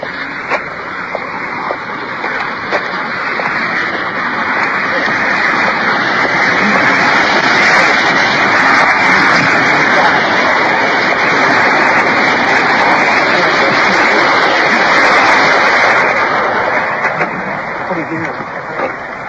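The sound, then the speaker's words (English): A steady, loud roar of water pouring over the top of a waterfall beside a creek, continuous, a dense rushing hiss that holds its level throughout and swells slightly toward the middle. “There's a waterfall. Probably can hear the water pouring over the top.”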